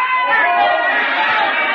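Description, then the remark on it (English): A large baseball stadium crowd cheers wildly as a batter hits the ball high into the bleachers, in a loud, continuous roar, many voices blending into one dense wash of noise that holds steady throughout. “And the crowd went crazy.”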